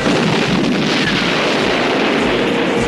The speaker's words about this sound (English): As the German tank starts down the village's main road, the damaged Tiger left behind explodes in a ball of fire.